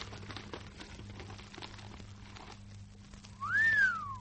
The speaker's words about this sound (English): Well, don't just whistle. What's in it?